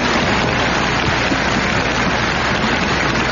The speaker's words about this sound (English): And now, they're still applauding Miss Paxson, for they all remember her performance.